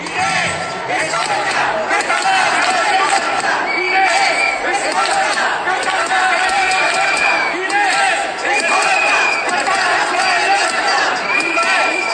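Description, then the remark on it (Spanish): Neighbours from the Casas de Franco protesting in the street, blocking traffic on the Ronda de Outeiro: a loud, continuous babble of overlapping shouting and chattering voices, with occasional higher raised calls rising above the din. “Y después el grito, las voces de los vecinos de las casas de Franco, que ayer volvieron a salir a la calle a cortar la ronda de Outeiro otra vez.”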